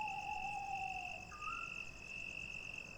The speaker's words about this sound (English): They could identify 6 different species. They are now able to identify the calls of different species of owls.